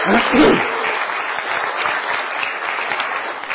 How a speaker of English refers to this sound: Okay, give them a big clap. Give them a big clap for being a good sport.